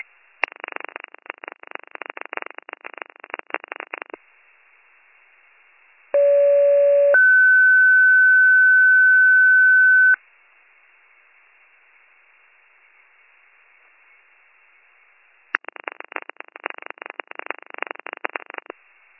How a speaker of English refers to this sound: Communications with your Monday night 1810 pager test, siren test to follow. Repeating Warren County with your Monday night 1810 pager test, siren test to follow.